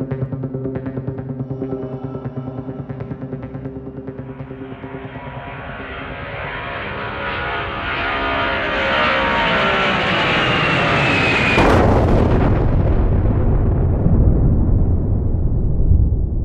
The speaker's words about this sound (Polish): Katastrofa! Samolot się rozleciał.